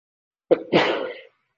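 A single loud sneeze: a short sharp intake followed by a breathy, explosive burst lasting about half a second, with no talking around it.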